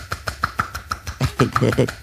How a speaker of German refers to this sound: Okay, Bildbeschreibung wäre jetzt quasi, du entspannst deine Finger und schüttelst deine Hand so sehr, dass die Finger an den Handballen schlagen.